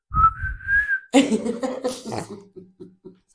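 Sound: person whistling a tune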